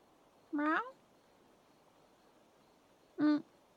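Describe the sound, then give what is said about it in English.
Two short, rising-and-falling meows, probably a person imitating a cat, each clear, separated by a long quiet pause; the first is drawn out, the second briefer. “I mean, meow. Meow.”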